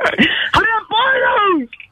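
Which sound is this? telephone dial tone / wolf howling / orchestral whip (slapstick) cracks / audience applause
wolf howling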